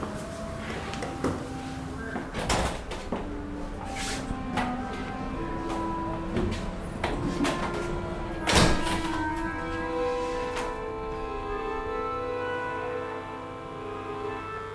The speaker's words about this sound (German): öffnet die Tür. Niemand wartet mehr.